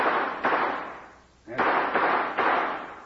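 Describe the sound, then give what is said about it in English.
Gunshots fired into the air as a signal for a rescue party, in wind, several loud sharp cracks in an uneven sequence, each trailing off in a long echoing decay, with a brief lull between the first pair and the last three. “He might hear gunshots and recognize the signals. I'll try a few shots into the air.”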